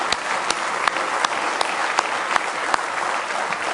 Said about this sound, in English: Could we give our streamers a nice hand clap this morning, if you would?